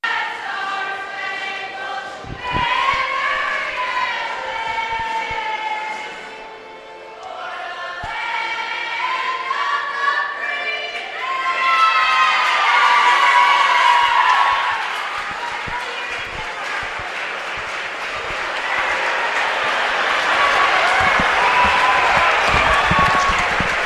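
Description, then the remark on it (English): A high school gym crowd at Cardinal O'Hara High School, before the starting lineups of a basketball game between Lower Marion and Roman Catholic, buzzes with a steady, busy murmur of voices and occasional shouts, swelling louder midway, while sharp thuds that could be basketballs bouncing punctuate the din. “This place is buzzing.”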